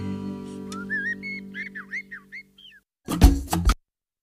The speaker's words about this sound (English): you just try to hear the birds at the end of …